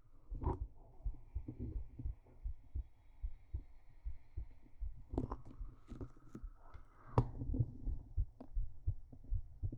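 A rapid heartbeat after 50 squats and 50 sit-ups thumps in a steady, quick rhythm of low, muffled beats, with a faint whooshing hum and occasional scraping rustles over it; no one speaks.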